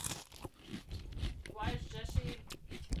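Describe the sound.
Crunchy venison jerky being chewed, with repeated crisp crunching bites over a few seconds and some muffled voice sounds mixed in.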